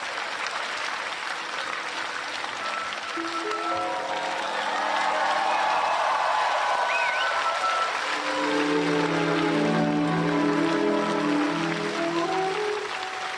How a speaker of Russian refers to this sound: За ваши аплодисменты.